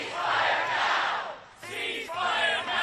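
protest crowd chanting

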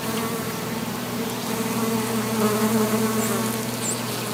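bees buzzing

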